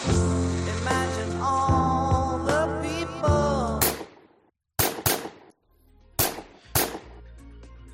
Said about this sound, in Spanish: Bueno, 5 disparos de revólver acabaron con su vida en torno a las 11 de la noche de un 8 de diciembre, hace justo hoy 40 años.